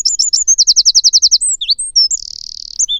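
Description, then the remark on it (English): A small songbird, one of the UK's smallest native birds, belts out a loud, high-pitched song: quick chirps, then a rapid run of about nine repeated notes, scattered whistles, and a fast buzzy trill near the end. No voices. “It's also one of the smallest, but what it lacks in size, it makes up for in volume.”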